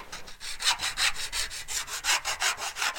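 A hand saw cuts through wood in steady back-and-forth strokes, about a dozen rasping, hissy pulls in a quick even rhythm, fairly loud, with no talking.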